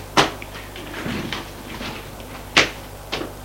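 A man opens a door: a sharp click of the latch, a low brief creak, then another knock and a softer bump as it swings and settles. No one speaks.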